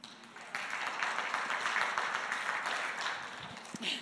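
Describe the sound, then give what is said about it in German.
A crowd applauds a volunteer from the audience, a dense wash of many hands clapping that swells after a quieter start and holds at a fairly loud, even level for several seconds. “Einen Applaus.”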